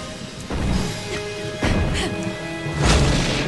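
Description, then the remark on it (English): Three heavy crashing booms, like a meteor slamming down, hit roughly a second apart. Each broad, loud impact is followed by a ringing, rumbling tail, with no voices. “A meteor crashes.”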